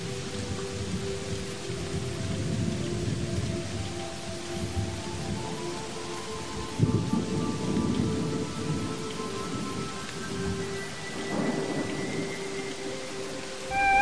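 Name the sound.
thunderstorm with heavy rain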